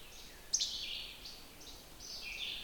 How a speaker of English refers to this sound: I hear other least flycatchers in the background also.